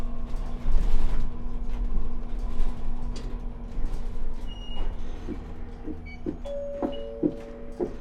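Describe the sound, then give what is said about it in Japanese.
A steady, low engine rumble and drone fill the inside of a bus bound for Morioka Minami in front of AEON via Suinan Bridge, joined by a few short electronic tones toward the end. No one speaks. “毎度ご乗車ありがとうございます。このバスは水南大橋を経由しまして、イオン前の盛岡南まで参ります。”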